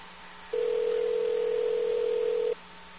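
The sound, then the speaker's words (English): A phone rings on an outgoing call: one steady, fairly loud ringback tone holding for about two seconds, then cutting off, over a faint low hum with no one talking. “Come on, sir, pick up.”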